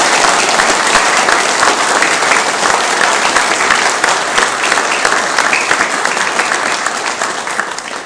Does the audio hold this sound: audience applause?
yes